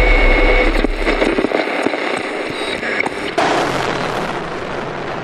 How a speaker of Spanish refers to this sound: cuando hay algún disparo de francotirador desde un edificio, las Fuerzas Armadas tiran ráfagas de metralleta pesada, de ametralladoras son esas, en todo el edificio.